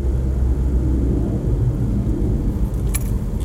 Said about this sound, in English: I keep hearing that fighter jet. Am I hallucinating?